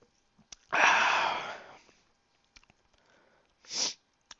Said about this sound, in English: And I got the sniffles because I got emotional with that Spider-Man thing.